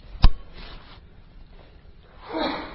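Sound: sneeze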